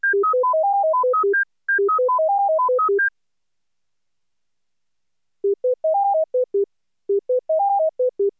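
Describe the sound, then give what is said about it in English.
A fast cycle of pure beeping tones alternating high and low, then after a pause only the lower tones return, stepping up and back down in two brief clean runs; a listening-test standard containing only the lower-frequency tones from the full cycle. “The second contains only the lower tones.”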